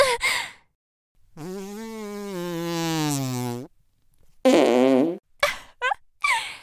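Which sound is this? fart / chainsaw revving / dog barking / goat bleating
fart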